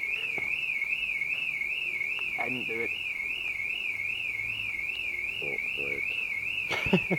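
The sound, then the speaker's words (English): A car alarm wails continuously, its high pitch wavering up and down in a steady rapid cycle, while people speak briefly underneath it. “It's a car alarm.”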